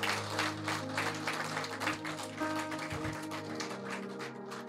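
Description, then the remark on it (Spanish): A crowd claps steadily and loudly throughout, a dense, sustained round of applause filling the space, with a low sustained musical tone humming underneath. “Si va a aplaudir, déselo fuerte ese aplauso.”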